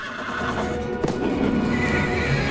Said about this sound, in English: The horse charges past Katie, lashing its hooves at the mountain lion.